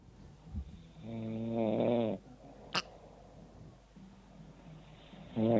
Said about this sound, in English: Is that you? That's me snoring.